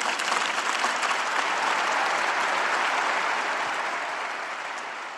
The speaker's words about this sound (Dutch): Een luid applaus van alle aanwezige leden van Communione Liberazione op het Sint-Pietersplein in Vaticaanstad. Het was een indrukwekkend zicht om te zien hoe groot deze beweging ook is en hoeveel mensen aanwezig waren.